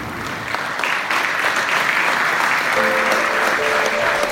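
Sustained applause from a crowd, a dense, steady patter of many hands clapping at an even loudness, with a faint tonal whoop or whistle rising above it toward the end.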